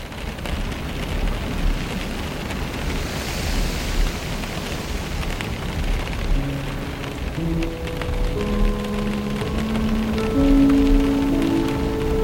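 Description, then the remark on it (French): Storm wind heard from inside a house: a steady, dense roaring rush with deep rumbling and no voices, while thin whistling tones drift in over it during the second half. “Et oui, c'est le vent de la tempête à l'intérieur de la maison.”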